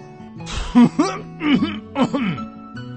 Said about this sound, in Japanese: そしてドライバーの両目は不思議なものでも見たようにピタッと止まり、次の瞬間うっかり笑ってしまいそうになったのを悟られないよう咳払いをする。